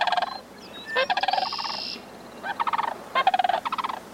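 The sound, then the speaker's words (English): Sandhill cranes calling in duet, loud rolling, rattling bugles in several overlapping bursts with short pauses between, with no voices. “Most cranes, like these sandhill cranes, duet with prospective partners for years before they begin breeding.”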